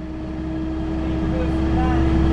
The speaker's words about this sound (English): We're on this bus. All I hear is the bus. Tell me what you're hearing. I hear this.